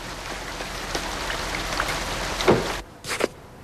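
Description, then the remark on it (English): Heavy rain pours down outside the Mercer Hotel as a car pulls up, a dense, steady hiss with occasional sharper drips and splashes, then the downpour cuts out abruptly, leaving a couple of brief splashes before near quiet. “Later, it's pouring when he pulls up to the Mercer Hotel.”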